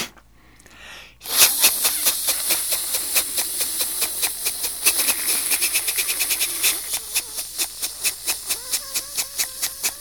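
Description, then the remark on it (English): A voice imitates a water sprinkler: after a brief silence, a loud breathy hiss ticks in rapid, steady pulses, then slows into distinct spitting bursts toward the end. “And perhaps we should close with the water sprinkler.”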